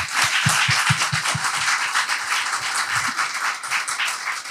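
A crowd applauds steadily, many hands clapping in a dense, continuous patter at an even, fairly loud level, with a few sharper individual claps standing out early on.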